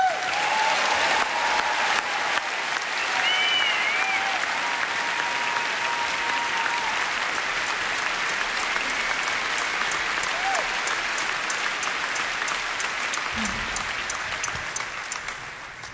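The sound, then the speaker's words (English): Sustained applause from a large audience welcoming a singer, a singer's sister, a dense, even roar of clapping with a few faint whistles riding over it, tapering slightly near the end. “I'd like to assume that that applause was for … as well.”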